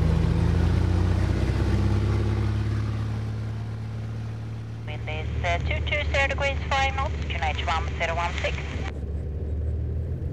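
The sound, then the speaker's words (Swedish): A loud, steady aircraft engine roar drones continuously and deep during takeoff and flight over Lake Mälaren in Sweden, deafening enough that pilot and passengers must talk through headsets; a person speaks over it partway through. “Och motorljudet, det är bedövande och samtal är inte att tänka på.”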